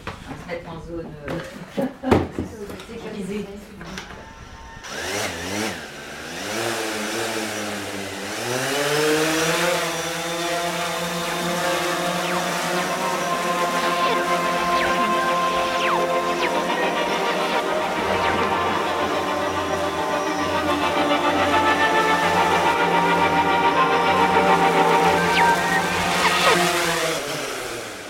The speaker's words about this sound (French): Donc la caméra reste toujours stable. C'est un drone qui est utilisé plutôt par le grand public pour de la prise de vue.